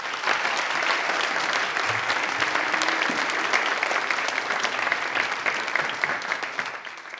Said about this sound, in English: Thank you, boys. I think we should give our three prayers and our two Bible readers a big round of applause this morning.